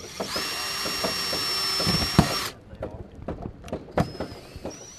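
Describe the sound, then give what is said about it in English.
Duke Energy workers hammer and drill to improve a boardwalk along the Dan River in light rain: a power drill whines steadily for a couple of seconds, stops, then starts up again, while sharp hammer blows and wooden knocks clatter irregularly throughout. “Beneath a light rain, they were hammering, drilling, and trying to improve a boardwalk”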